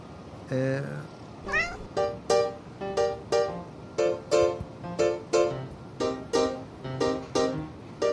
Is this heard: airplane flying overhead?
no